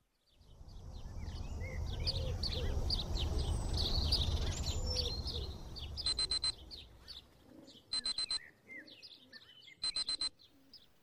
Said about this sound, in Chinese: 随着闹钟的嗡鸣声响起，我和往常一样起床给老公做早餐